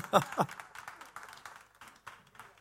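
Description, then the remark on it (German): A small audience applauds to welcome guests, opening with two sharp claps and then settling into softer, scattered clapping that trails off, with faint voices murmuring underneath. “Sucht euch ein Plätzchen, gerne einen Applaus.”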